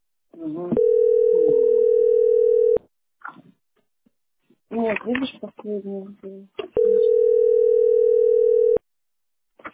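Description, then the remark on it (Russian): Two long, steady electronic tones on an automated telephone line, each lasting about two seconds, sound loud and flat in pitch. Between them, people talk briefly in a low voice. “Слышите вот это? Там, сука, это что, робот?”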